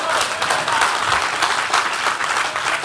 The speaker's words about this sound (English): Get the Lord a real hand clap right there.